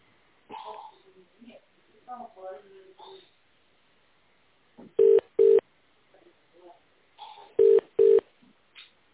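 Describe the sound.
Touch-tone keypad beeps sound in two quick pairs, four loud, clipped tones in all, over a narrow phone line, with a voice talking before them and briefly in between, as an extension number is dialed in tone mode on a company branch's automated phone line in the Volga Federal District.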